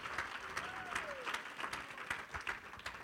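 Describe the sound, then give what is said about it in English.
A church audience claps their hands together for the Lord in a steady, dense round of applause lasting a few seconds, with many hands at once and a faint voice rising briefly through the noise. “Let's clap our hands. Hay que darle un fuerte aplauso al Señor.”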